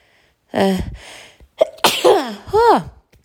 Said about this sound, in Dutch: Ik moet niezen. Oh, nee.